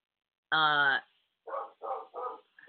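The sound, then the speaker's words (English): A male dog barks loudly: one long, harsh bark, then a quick run of three shorter barks and the start of another. There is no talking over it. “I don't know why he's barking, but it sounds like there is somebody here.”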